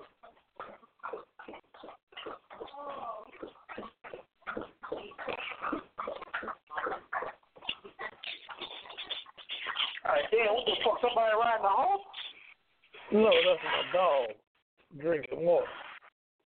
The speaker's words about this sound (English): Somebody riding the horse? No, that's my dog drinking water.